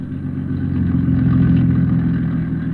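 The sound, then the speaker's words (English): A powerful motorboat, showing no lights, enters the harbor of a city on the Pacific coast, moving cautiously toward an abandoned wharf: a deep, steady engine drone, a low rumbling throb with slight swelling in the middle, loud and continuous with no voices. “a powerful motorboat, showing no lights, enters the harbor of a city on the Pacific coast”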